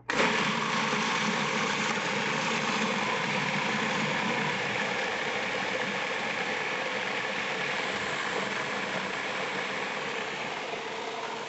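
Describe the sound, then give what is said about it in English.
A blender whizzes pie filling into a smooth purée, a steady loud motor whir with a dense, buzzing hum that runs unbroken for about eleven seconds with no talking. “And whiz.”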